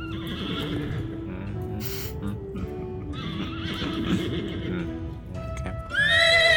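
Horses neigh and whinny over a steady rumble, with hooves clip-clopping throughout; a loud, high whinny rises sharply near the end.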